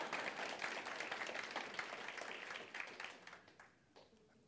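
A crowd applauds for a couple's 18th wedding anniversary, with dense, steady clapping that holds strong for a few seconds, then thins out and tapers off into scattered claps at the end.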